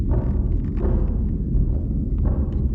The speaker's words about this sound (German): Der Puls des Neutronensterns wabert für einen Augenblick allein durch die Dunkelheit, bevor die Schlagzeuge wieder einsetzen. Den Klang des Pulsars live aus dem Weltraum zu hören, geht unter die Haut.